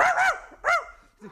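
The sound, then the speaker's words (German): A person imitates a big dog with a quick pair of loud barks, a short pause, then another strong bark and a softer low final woof. No other talking. “Noch mal Schnaps und noch etwas lauterer bellen muss ich da.”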